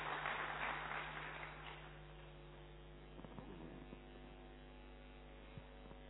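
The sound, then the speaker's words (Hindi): Audience applause of thanks, a dense patter of many hands clapping at once, fades out within the first couple of seconds, leaving a steady low electrical hum with no voices. “तो फिर से बहुत बहुत बहुत शुभकामनाएं आज के दिन, जोरदार तालियों के साथ धन्यवाद।”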